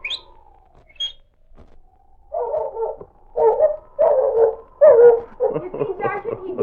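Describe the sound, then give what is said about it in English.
A person gives a long, gently falling whistle to call the dog Smokey, then short chirped notes, followed by a run of loud, choppy voiced bursts that could be an answering dog. “All right, now whistle to him. But do it just like I did.”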